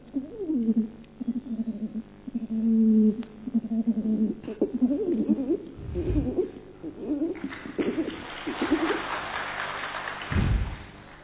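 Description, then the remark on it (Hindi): A person imitates pigeon cooing, producing a long run of throaty, warbling coos that rise and fall continuously, with a couple of dull thumps near the middle and end. “तो कबूतर कैसे करता है?”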